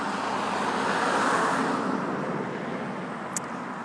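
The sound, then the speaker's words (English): A car passes along a road at night, a broad whooshing rush that swells to a peak around the middle and then slowly fades, with a brief faint high click near the end. “I just happened to be by a road where I guess every now and then a car passes by and just makes a lot of noise for some reason.”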